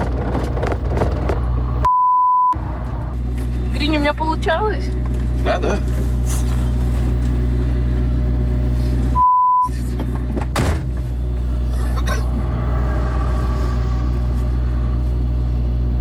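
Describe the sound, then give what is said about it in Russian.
A car engine is started and idles with a steady, low rumble throughout, while people talk over it and two short electronic beeps cut in. “Так, так, заводится машина.”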